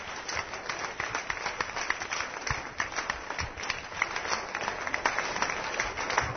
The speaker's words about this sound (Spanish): Un aplauso a Jesucristo, Señor.